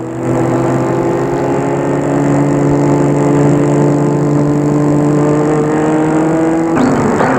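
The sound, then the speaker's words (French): A car engine hums steadily, a low droning rumble that holds even, then shifts abruptly near the end as the car pulls in and parks a little way from the entrance of a château at the end of the day. No voices. “Gilbert va garer la voiture un peu loin de l'entrée.”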